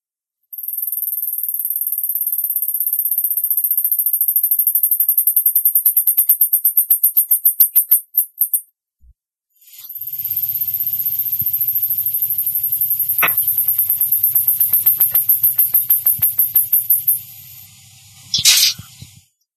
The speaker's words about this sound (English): You are first going to hear the mouse that starts the duet, and then you will hear the second mouse who is finishing the duet. The singing is a very high-pitched whistle. Do not expect it to be like opera or bird song for that matter.